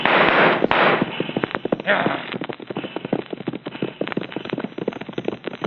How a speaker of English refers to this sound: I've not been shot at so much for months. Do a little shooting myself, I think, just to spoil their aim.